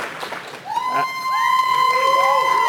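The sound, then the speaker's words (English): An audience erupts into loud cheering in a vote for a favorite video game, with many voices whooping and shouting together in a swelling, sustained roar that builds after a brief murmur. “Fudge Factor, who just loves Super Metroid the most? Like, really make those voices heard.”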